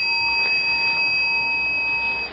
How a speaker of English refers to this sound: But if I hold the bell lightly, loosely, then you can make a nice sound. So to let go of the bell, it means not to hold on, not to grasp it, but rather just to hold it lightly.